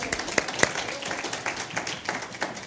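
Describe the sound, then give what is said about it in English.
A small audience claps steadily for a woman for a few seconds, a dense patter of hand claps at moderate volume with no one speaking over it. “You can clap for her.”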